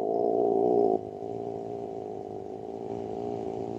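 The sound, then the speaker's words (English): A person imitates a cat's purr with a low, rattling, buzzy voice held steadily for about four seconds. It is loudest in the first second, then continues slightly softer with no words spoken. “Oh, I can do a kitty cat purr, but as far as a note, that's about 50 hertz there.”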